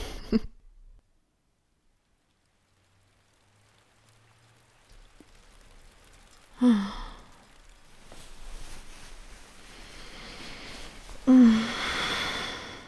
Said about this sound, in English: Besides, with the rain pattering against the window like that, cuddling is anyway the only right thing to do.